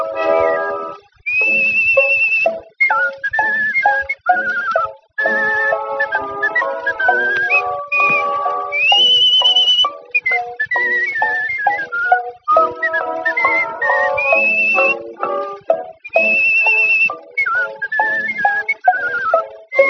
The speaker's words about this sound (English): a whistling boy. Bright and gay, he fills the world with joy. Always whistling to while the time away, from the early morning to the close of day.